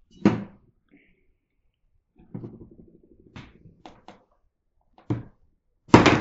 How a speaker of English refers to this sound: He's clumsy, but it's okay. You turn it on and knock it over like you did.